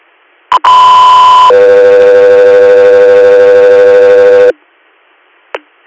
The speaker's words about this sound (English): Victory Air, standby for tones.